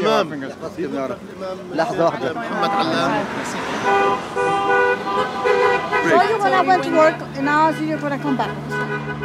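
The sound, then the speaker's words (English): Cars driving by in Southwest Brooklyn honk their horns repeatedly for a candidate, long sustained toots overlapping with shorter blasts, fairly loud, while people talk and cheer in the background. “Cars were driving by, honking their horns for him.”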